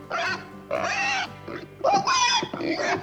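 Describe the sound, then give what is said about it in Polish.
A piglet in a barn squeals again and again in shrill, harmonic bursts, four or five loud cries separated by brief pauses, with no talking in between. “Czemu to prosie tak ryczy?”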